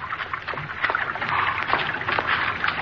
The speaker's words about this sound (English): Water. Water again.